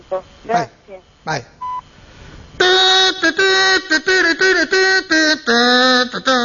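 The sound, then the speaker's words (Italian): Telephone answering machine tones: a brief electronic beep follows a few voice-like sounds, then a loud, steady run of buzzy synthetic tones in short, closely spaced bursts. “Collegati ad una segreteria telefonica.”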